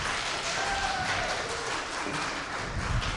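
A crowd applauds steadily for a few seconds, a dense wash of clapping that holds an even loudness throughout, with a faint high tone briefly threading through early on.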